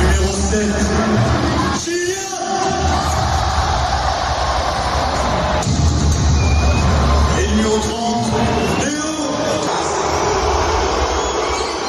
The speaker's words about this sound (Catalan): la notícia va tornar a estar en com l'afició del París va rebre els seus cracs, i més concretament el Leo Messi, exactament igual que abans de l'aturada. Primer, aplaudiments a Mbappé i després xiulets i crits contra Messi.